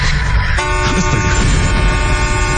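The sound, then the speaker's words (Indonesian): A car horn suddenly blares and holds as one loud, sustained honk, cutting in over a low engine rumble and continuing steadily to the end. “terdengar suara klakson mobil yang tiba-tiba saja menyala.”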